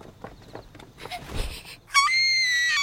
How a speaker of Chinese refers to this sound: 小女孩发出震耳欲聋的尖叫，她没跑，而是愣在当场，尖叫声经久不散。